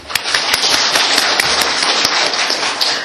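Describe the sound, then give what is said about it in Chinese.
A church audience applauds to thank choir members and other church members for their evangelism work: steady, dense clapping from many hands forms a continuous crackling wash for about three seconds, with a few sharper claps standing out. No one speaks. “我们鼓掌来谢谢他们。”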